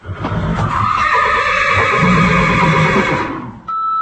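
horse neighing

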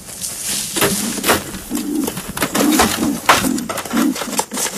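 wood pigeons cooing

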